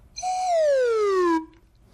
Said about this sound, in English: See what I brought today? It's a whistle. And it has a slide on it. So it's called a slide whistle. If you move the slide, the sound changes.